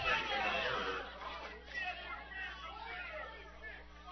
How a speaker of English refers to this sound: Crowd's a little unruly at this point, yelling for some interference. I'm not sure if the runner ran into somebody or the batter ran into somebody.